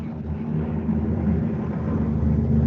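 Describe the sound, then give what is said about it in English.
A low-flying helicopter drones overhead, a loud, steady, throbbing rumble with heavy low-end that swells slightly as it passes, with no voices heard. “There's a chopper going over. I was even going to say, that sounds quite low-flying.”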